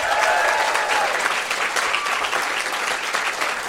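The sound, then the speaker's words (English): An audience at a comedy venue in Perth applauds loudly and steadily, dense clapping filling the space for several seconds with a few whoops and cheers rising above it. “All right, well, because this is the end of the podcast, for people at home, can we have a big round of applause for the Comedy Lounge for hosting us here today?”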